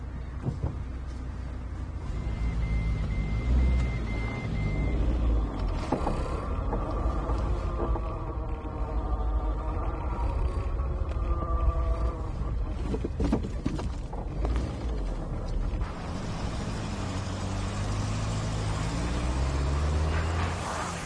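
A steady, continuous engine rumble from inside a moving car heading to a police station, with a low droning hum and occasional faint rattles and creaks, holding at an even level throughout with no talking.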